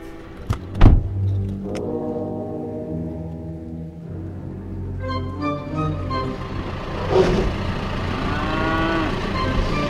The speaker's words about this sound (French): Alors les voilà vos vaches. Les voilà mes vaches, voilà, elles sont là.